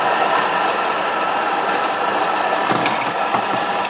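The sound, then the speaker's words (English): A coffee grinder grinds coffee before an espresso shot is pulled, running continuously with a loud, steady, harsh whirring rasp with a faint rattling texture that holds its level throughout, with no voices. “I probably won't bore you with a whole 19 seconds of it, but I'll start grinding.”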